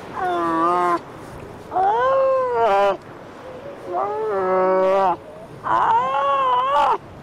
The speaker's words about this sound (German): An der Nordostecke der Insel brüten Trottellummen und in der einzigen deutschen Brutkolonie Basstörpel. Die Tiere haben eine Spannweite von bis zu 1,80 Meter, schneeweißes Gefieder und sie streiten sich hier gerade um den besten Bruthügel.